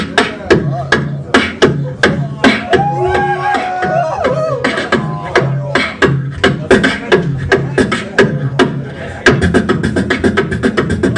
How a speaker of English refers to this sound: Then we have the snare. On the side is the rim shot.